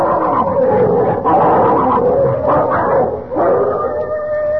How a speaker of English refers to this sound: What's that? Oh, it's them dogs. They're fighting again. Lend a hand now, quick, before they chew each other to bits.